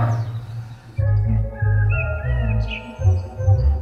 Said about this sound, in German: Ich habe quasi eine Aufnahme eines Vogels und jedes Mal, wenn der einen Sound von sich gibt, dann sieht man einen Wellenausschlag.